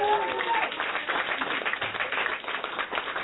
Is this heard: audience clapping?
yes